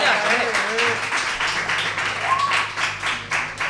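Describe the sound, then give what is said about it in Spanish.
A steady burst of applause for a correct quiz answer, many hands clapping in a dense, even patter for a few seconds, with scattered voices calling out over it. “Aplausos.”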